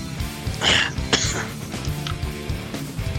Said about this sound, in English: I made you cough with that one.